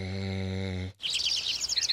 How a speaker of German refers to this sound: Genau, im Frühling erklingt endlich wieder das Vogelgezwitscher, das man den ganzen Winter über vermisst hat.